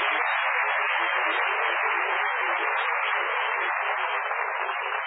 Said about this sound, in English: This is a restaurant. Who's applauding you? The waiters.